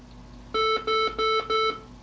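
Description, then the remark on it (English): Four identical electronic beeps from a home server after it is switched on, signalling it is fully up and ready for remote login, in a steady, evenly spaced sequence, each a clear pure tone with harmonics, moderately loud, with no voices. “After switch on, the server emitted four beeps to signal that the server was fully up, with a detached screen session running, ready for remote login.”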